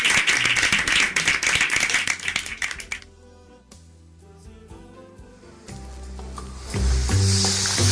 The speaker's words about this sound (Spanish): Bueno, un aplauso para vosotros. Muchísimas gracias.